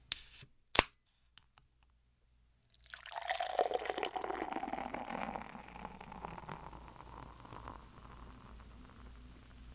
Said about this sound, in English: Let me play a sound effect so I can subtly transition to the beer mic so you can listen to the pour.